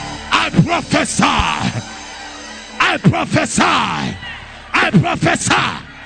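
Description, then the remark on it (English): Loud, strained voices shout and yell in three energetic bursts separated by brief lulls, with rising, wailing cries over a reverberant background. “As you shout. As you scream.”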